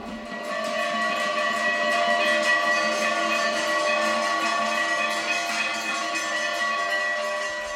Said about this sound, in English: When they finish singing Shiva's praises, the bells clang out in dissonant ecstasy.